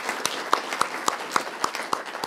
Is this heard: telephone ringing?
no